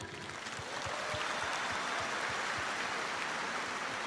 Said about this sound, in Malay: ada di antara penyanyinya hadir pada malam ini, penulis lirik dan juga pencipta lagu. Kita berikan tepukan.